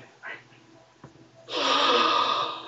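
A short breathy puff, then a loud, sharp intake of breath that rushes on for over a second, a noisy gasp with no talking around it.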